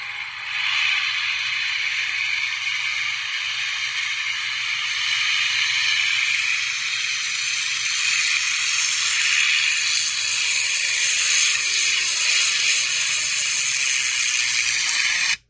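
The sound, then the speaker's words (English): A steady, loud engine drone runs unbroken for about fifteen seconds, a hissing roar with faint sustained whining tones, from the V12 Merlin engine, made by Rolls-Royce or Packard, on the front of a P-51 Mustang. No one speaks. “That, my friends, is a V12 Merlin engine, either made by Rolls-Royce or Packard, on the front end of a P-51 Mustang.”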